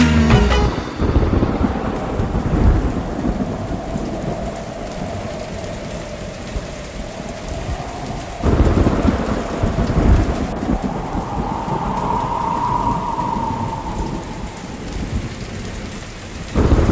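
Heavy rain pours steadily for the whole stretch while deep thunder rolls and rumbles several times, loud and close, with no voices at all.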